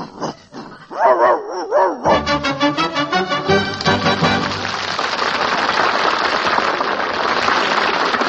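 A dog whines in a few rising, wavering cries, then breaks into quick, rapid-fire barking and yapping that runs on loudly, growing dense and busy toward the end.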